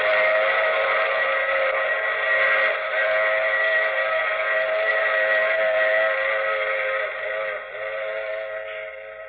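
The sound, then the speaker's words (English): A steam train's whistle blows in one long, loud, steady wail, its chord holding for several seconds before easing slightly at the end. No voices are heard. “I take this same train every week.”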